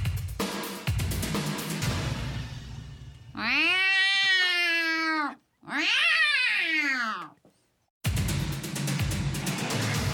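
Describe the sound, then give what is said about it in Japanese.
A performer imitates a cat as an entry in an impressions performance, with two long, drawn-out meows, each rising then falling in pitch, loud. Busy background noise sits before and after them. “猫のモノマネです。”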